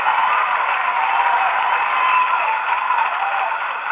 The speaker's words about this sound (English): So let's give that caller one more round of applause as she goes off.